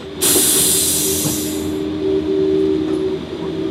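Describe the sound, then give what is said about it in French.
A train pulls away after its doors are closed and locked: a sudden loud hiss of released air fades over about a second and a half, leaving a steady low mechanical hum with faint rattling. No one speaks. “Voilà, elles sont fermées et verrouillées, et là on part.”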